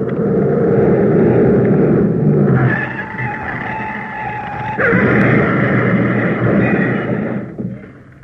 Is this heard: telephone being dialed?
no